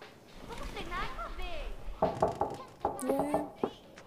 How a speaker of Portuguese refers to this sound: Quem que tá batendo na porta?